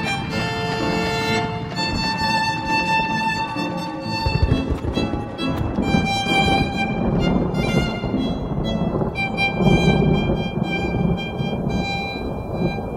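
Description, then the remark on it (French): Heavy rain pours steadily over the Whitechapel district while deep thunder rumbles and swells underneath, dense and loud throughout, mixed with sustained ringing tones. No one speaks. “Lorsque Finch et Basile y entrent en fiacre, une pluie grasse tombe sur le quartier de Whitechapel.”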